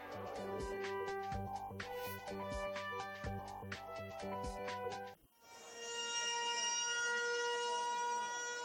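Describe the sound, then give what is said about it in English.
After a few seconds of rhythmic percussive music, a loud, steady civil defense siren takes over, holding a sustained droning tone to the end; a 74-second siren sounded across the West Bank at 12 noon local time, marking 74 years since the Nakba. “A 74-second siren was sounded across the West Bank at 12 noon local time, marking the 74 years that have passed since their Nakba, the catastrophe.”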